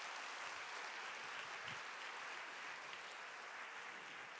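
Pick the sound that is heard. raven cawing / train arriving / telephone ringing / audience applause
audience applause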